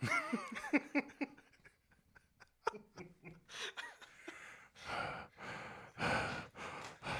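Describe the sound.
A person imitates a whale's heavy breathing with a series of loud, breathy exhalations and sighs, starting with some voiced sputtering and then several long, forceful rushes of air.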